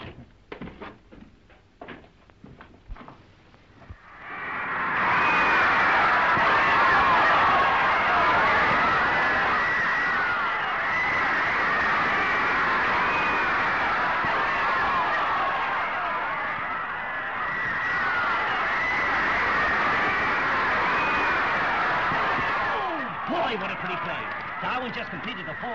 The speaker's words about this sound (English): And the crowd is going wild.